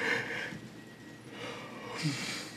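A drawn-out yawn: a long, breathy inhale that swells and fades, then a second airy rush toward the end with a faint voiced tone, with no talking.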